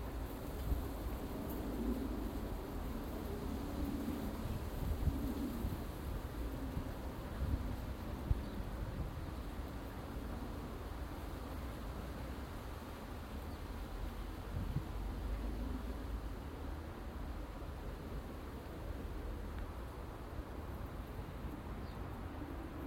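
Wind blows steadily outdoors on an overcast, cold morning, a continuous low rumble and broad hiss that stays fairly even throughout, with no voices and only slight gusty swells.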